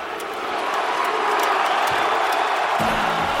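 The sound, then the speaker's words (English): A large arena crowd in Dallas roars and cheers at Luka Doncic's player introduction on his return, as aired on the NBA on ESPN, in a steady, dense wall of noise that swells slightly and holds loud throughout, with scattered whoops rising from the din. “This is just a portion of the crowd reacting to Luka Doncic and his introduction.”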